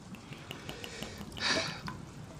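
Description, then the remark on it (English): Steady rain patters with scattered drips tapping through it, swelling briefly into a louder hissing rush midway before settling back to a soft, even fall. No voices. “And working in this rain would be dangerous.”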